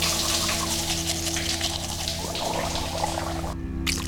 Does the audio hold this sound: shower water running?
yes